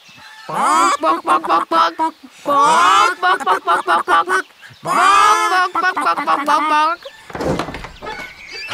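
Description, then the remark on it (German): Several people loudly imitate chickens, cackling as loud as they can in three rapid, choppy bursts of clucking, followed by a brief noisy clatter near the end. “Nach auf die Plätze, fertig, los, gackern wir so laut wir können.”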